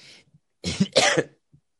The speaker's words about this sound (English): Excuse me. The mute button's a little further away at this moment. I couldn't quite get to it. That was an in-my-elbow cough. Don't worry.